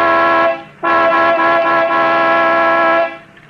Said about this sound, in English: All right. I'll give it the horn. It don't budge.